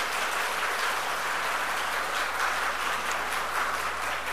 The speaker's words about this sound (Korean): 박수해 주시기 바랍니다.